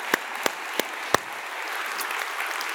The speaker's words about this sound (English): So if we would, let's just give a round of applause for our vets, if you would, please, on this Memorial Day.